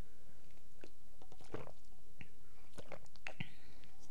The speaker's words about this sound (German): Ich muss aber erstmal einen Schluck trinken. Prost.